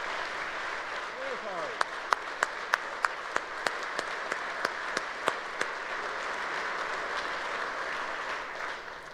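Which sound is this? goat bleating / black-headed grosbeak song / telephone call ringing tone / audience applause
audience applause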